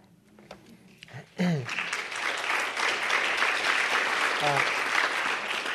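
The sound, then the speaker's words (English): An audience breaks into sustained applause that rises abruptly and holds steady, loud and dense, with a brief voice heard just as the clapping begins. “Don't clap for all of them.”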